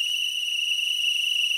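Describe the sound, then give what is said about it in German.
A piercing, high-pitched whistle from a telescreen at 7:15, signalling time to get up, holds as one long, unbroken tone at steady loudness, shrill, with no voices or other sounds. “Vom Teleschirm kam ein ohrenzerreißendes Pfeifen. Ein langer Dauerton.”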